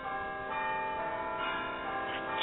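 Church bells peal continuously, their overlapping ringing tones blending into a dense, steady wash of sound, with no voices present.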